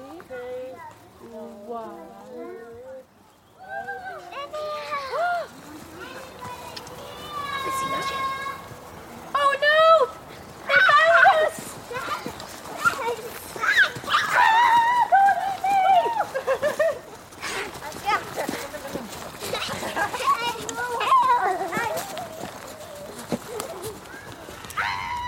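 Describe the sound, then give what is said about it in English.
Children play outdoors at an outdoor nursery in Aberdeenshire, their high voices overlapping in chatter, calls and excited squeals. The lively, continuous noise stays fairly loud throughout. “The sound of children playing at Mucky Boots Outdoor Nursery in Aberdeenshire this week.”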